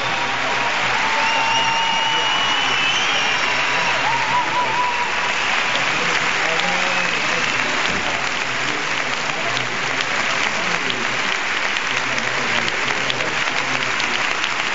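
Sustained audience applause fills the whole stretch, a dense wash of clapping hands at steady loudness, with a few faint whistles or cheers rising briefly above it near the start.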